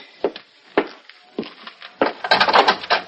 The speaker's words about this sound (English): I got to bust down this lousy door.